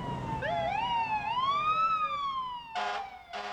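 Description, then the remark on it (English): A fire truck siren wails, sweeping up and down in pitch, then two short, blaring horn blasts cut in near the end, as fire trucks and cars parade a returning shooting team through Petersburg in a welcome-home noise parade. The siren is loud, with no talking. “Then, fire trucks and cars paraded the team through town.”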